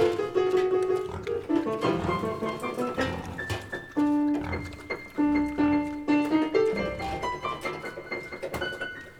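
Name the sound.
pig oinking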